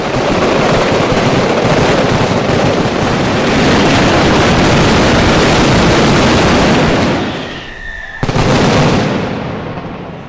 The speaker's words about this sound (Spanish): los problemas auditivos que se generan tras una mascleta suelen ser muy escasos. Además, siempre hay recursos que no fallan cuando el ruido se hace insoportable: gritar y correr.